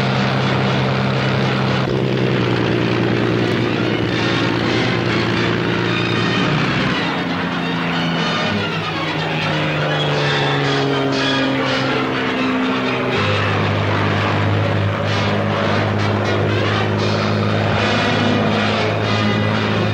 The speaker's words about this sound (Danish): The fighters of the Royal Air Force go racing into action.